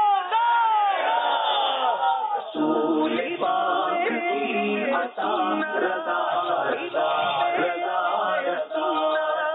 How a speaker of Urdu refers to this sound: نعرے کا جواب دیجئے